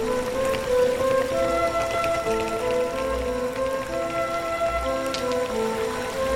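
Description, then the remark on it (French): Steady trickling and splashing of water running along a street gutter in Paris, a continuous bubbling wash with bright droplet-like patter and a faint low rumble underneath, no voices. “Il y a comme une petite rivière d'égouts. Voilà. On va prendre le son de la rivière des goûts de la ville.”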